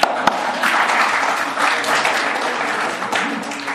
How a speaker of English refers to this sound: Oh, and our Mayor of North Dumfries has arrived. Thank you, Mayor, for coming tonight. You're supposed to applaud the Mayor.